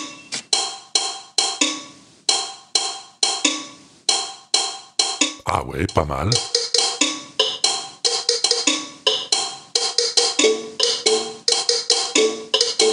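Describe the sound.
Soda can tabs flicked with a finger give a steady run of short, twangy metallic plucks at shifting pitches, forming a bouncy melody, with a brief spoken interjection midway.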